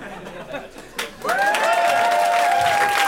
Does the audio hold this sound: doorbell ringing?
no